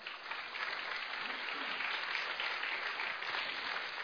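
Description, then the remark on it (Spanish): A crowd claps steadily for several seconds, a dense, even wash of many hands with no pauses and no voices rising above it. “Si va a aplaudir, apláudale con ganas, por favor, hermano.”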